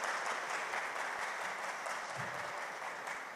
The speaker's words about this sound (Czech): Prosím, zatleskejme mu.